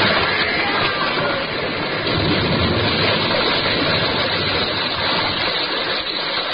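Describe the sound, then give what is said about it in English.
Water gushes in a loud, steady torrent, roaring without pause as it pours through a breach in a ship's starboard bow struck by a whale. No voices are heard. “Through the breach, they heard the waters pour as mountain torrents down a flue.”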